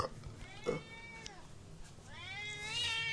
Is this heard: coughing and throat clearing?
no